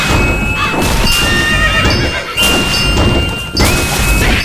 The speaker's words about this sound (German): Ey, ihr blöden Pferde.